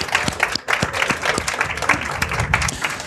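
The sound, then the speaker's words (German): A crowd applauds steadily, many hands clapping in a dense, continuous patter with sharp individual claps standing out, fairly loud and sustained throughout. “Applaus.”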